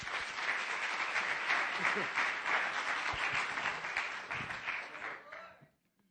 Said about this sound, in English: They're going to come now and sing a few songs before I deliver the Word of God. If you will, just give them a round of applause.